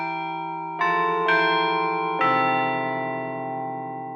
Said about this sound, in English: Thank you for auditioning the Chime Master Carillon. The Chime Master Carillon features state-of-the-art digital recordings of actual bells. A comprehensive musical library is furnished with the Chime Master Carillon, featuring music for all seasons.